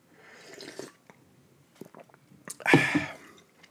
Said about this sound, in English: All right, moving right along here. Sip of coffee for the working man.